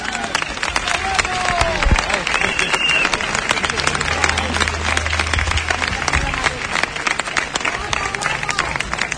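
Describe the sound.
An audience applauds steadily for several seconds, dense overlapping claps forming a loud, even wash of sound, with scattered crowd voices mixed into the clapping.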